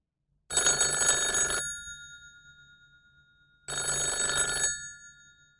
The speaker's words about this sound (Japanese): でも、夜8時ごろに電話がありました。